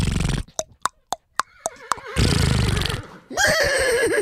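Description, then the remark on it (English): A person imitates a horse during a pretend massage, starting with a breathy snort, then rapid clicking tongue beats like hooves, followed by a wavering, whinnying vocal neigh that rises and trembles, loud. “All right, well, let's act like she's massaging you. Make a horse noise.”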